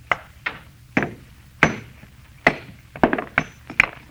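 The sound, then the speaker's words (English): A hammer strikes a stone again and again, trying to break it along a fissure, about nine sharp, ringing blows at an uneven pace, fairly loud, with brief pauses between hits and no voices. The stone, a meteor, splits clean in half. “All I'm going to do is try and break it along this fissure.”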